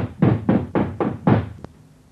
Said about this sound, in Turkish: Eve yaklaştı ve kapıyı çaldı.